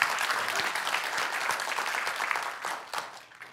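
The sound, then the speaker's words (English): An audience bursts into hand clapping as praise to God, a dense, steady wash of many overlapping claps that holds for a few seconds before thinning out toward the end. “All right, well, let's begin one more time with a bigger word, a hand clap of praise to God today.”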